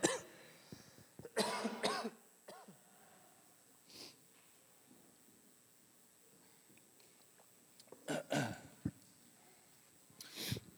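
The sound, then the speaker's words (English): Several loud coughs from a speaker come in bursts: a double cough near the start, a softer one in the middle, then another pair and a final cough, with quiet breathing and faint background noise between. “excuse me, I've got a cough today.”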